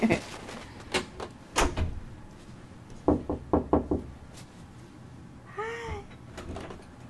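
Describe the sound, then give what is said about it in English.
Knocks on a door: a couple of separate raps, then a quick burst of about five, followed by a brief high-pitched vocal sound. “Knock on the door.”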